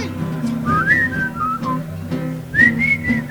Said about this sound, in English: Whistle.